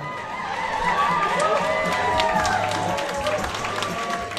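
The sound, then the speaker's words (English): A crowd of more than 150 at the Jared Golden campaign in Lewiston, Maine, erupts into loud, sustained cheering while watching national election returns on a big screen TV, with many overlapping excited voices and some clapping for about four seconds. “At the Jared Golden campaign in Lewiston, a crowd of more than 150 erupted into cheers as they watched national returns on a big screen TV showing Democrats on the brink of recapturing a majority in the U.S.”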